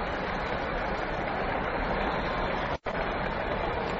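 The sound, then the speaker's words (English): A stadium crowd at a baseball All-Star game roars in a sustained, loud ovation for Lou Gehrig, captain of the American League All-Star team, standing at the plate. A steady wash of cheering and applause with no one speaking over it, broken by one momentary dropout near the end. “And it's Lou Gehrig, ladies and gentlemen, who's captain of the American League All-Star team, standing out there at the plate, and the crowd is giving him a tremendous ovation. Just listen for a moment.”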